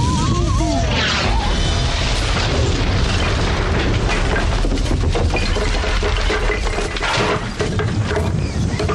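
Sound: cannon firing explosion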